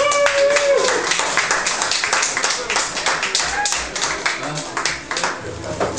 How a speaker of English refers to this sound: So can I have a big round of applause